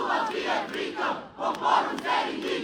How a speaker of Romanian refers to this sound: Sute de tineri s-au adunat marți seară în Piața Victoriei din Timișoara la un meeting de susținere a democrației europene. Ei poartă pancarte și au strigat sloganuri inclusiv de la Revoluția din decembrie 89.